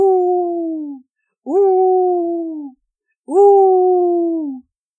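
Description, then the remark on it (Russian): A voice imitates a wolf howling: three long, sustained wailing howls, each sliding gently downward, separated by short pauses. Loud, with no other sounds around them. “Тогда я один спою. И как начал выть.”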